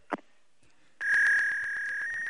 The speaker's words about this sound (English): We're talking to a modem here. We're talking to a modem.